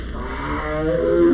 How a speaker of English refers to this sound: The Sumatran tiger calls.